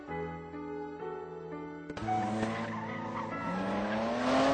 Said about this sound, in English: A girl and a boy were on the motorcycle, speeding through the night.